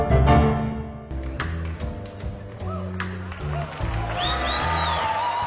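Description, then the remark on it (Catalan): An audience at a jazz concert in Vienna in 2009 applauds as four women singers come onto the stage, a dense, steady patter of clapping mixed with cheering and a few high whistles, while sustained musical tones carry on underneath. “Avui arrenquem el nostre particular tour entre aplaudiments.”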